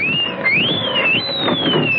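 A siren wails in a continuous high tone that rises and falls in slow sweeps, sounding loudly over a steady rumbling background noise.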